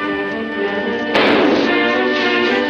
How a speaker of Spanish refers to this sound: Un pirata que intenta romper la cerca recibe un disparo de Trelawney.